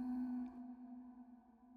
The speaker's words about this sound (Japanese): どこからか教会の鐘の音が聞こえてくる。徐々に辺りが暗くなっていく。ボーン、ボーン。